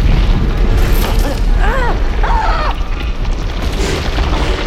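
A heavy, steady earthquake tremor, heard from inside a cell within a mountain in earthquake country, roars low and loud for several seconds, with a couple of brief wavering, groaning creaks rising over the shaking midway through.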